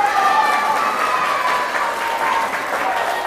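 crowd, children applauding loudly

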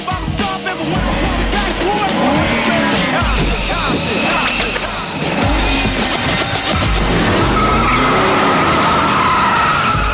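vehicle, car tires skidding

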